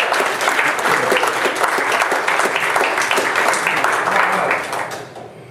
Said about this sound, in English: a little hand of applause.